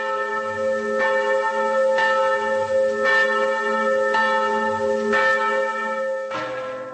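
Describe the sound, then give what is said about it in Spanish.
Church bells in the Czech Republic ring out after the death of the former Czech president, in a steady, rolling peal with strikes arriving about once a second over a sustained wash of overlapping harmonic tones, loud and resonant, with no voices present. “Las campanas no han parado de sonar en la República Checa desde que, al mediodía del fatídico domingo, cuando la gente estaba más preocupada de realizar sus compras prenavideñas, trascendiera la noticia de la muerte de su ciudadano más ilustre,”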